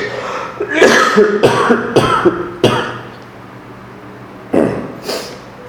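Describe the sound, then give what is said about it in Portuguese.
A loud coughing fit from a speaker during a talk: a cluster of four harsh coughs in quick succession, a short pause, then two more hacking coughs, with no talking. “E eu acho que eu vou entrar numa série de tosse.”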